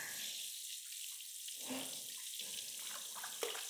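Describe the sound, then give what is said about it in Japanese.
Water runs steadily from a tap, rinsing shampoo lather from a person's hair after a hair wash, with a constant hiss broken by uneven splashing surges as the stream hits the head. No one speaks. “では、流します。目を閉じていてください。泡残りがないようにしっかりすすがないと。”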